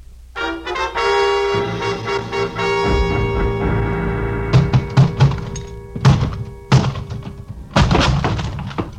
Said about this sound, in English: The lock on the closet door gave up before I did, but only because it was older by several years.